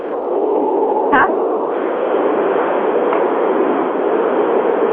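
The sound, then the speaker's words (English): Steady, loud roaring rumble like a train running behind a caller's microphone on a group call, heard through a muffled phone-quality line, with one brief sharp crackle early on and no clear talking. “If you have a train behind your microphone, Pound Town 1 will mute it.”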